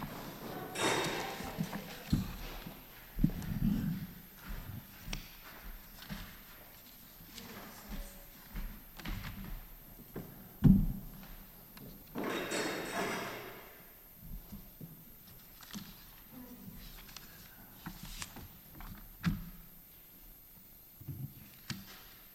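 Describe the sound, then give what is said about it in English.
Irregular knocks, thumps and scraping bursts, like chairs being dragged across a floor and stacked at a Prudential Committee meeting, with a few faint voices murmuring in the background. “We can take care of the chairs.”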